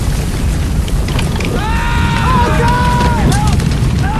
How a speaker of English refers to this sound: A hail of bullets rain down in two lines between the group. A jeep behind them is blown up.